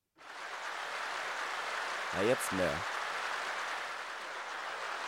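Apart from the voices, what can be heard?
applause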